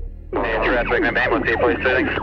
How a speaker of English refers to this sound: News of casualties on Hoddle Street reached police. They were fast converging on the area with sirens wailing, blue and red lights flashing.